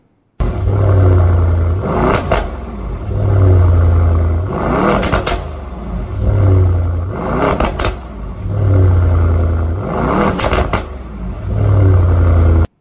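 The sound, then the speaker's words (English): A gasoline car engine revs hard again and again in a steady cycle, about six loud throaty surges over a deep idling rumble, powerful, with no voices. “That is one of the things that I like about a car.”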